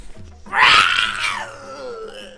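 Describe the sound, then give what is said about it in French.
A loud, raspy tiger roar, apparently voiced by a person, from a caged tiger being tickled with a feather, bursts out after a brief low rumble, holds for about a second, then trails off into a thinner fading moan. “Rugit le tigre.”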